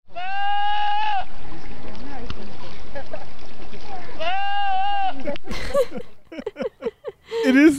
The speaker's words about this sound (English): I wanted to confirm that this was a goat. And I think I'm not a goat expert. I'm not a goat girl. Okay. But I think this is a Pyrenean goat. They have long hair, a mop head, and those curly twisted horns. And here's another video of a goat screaming.